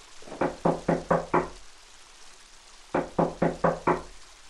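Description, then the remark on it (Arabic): Two quick bursts of five sharp knocks on the wooden door of a brother's room at home, evenly spaced, with a short pause between the sets. The knocks are clear, with no voices. “تفضلوا، الباب مفتوح.”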